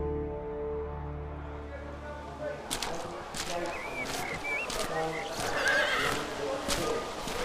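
A horse whinnies over busy background activity at racetrack stables, with scattered hoof clops and knocks on hard ground; a low steady hum fills the opening seconds before the stable noises begin.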